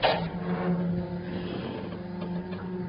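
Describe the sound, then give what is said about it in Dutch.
A door opens with a short clunk, followed by a steady mechanical whirring hum of a motor running throughout, moderately loud, with no voices. “Wacht, ik zal eerst even de deur openmaken.”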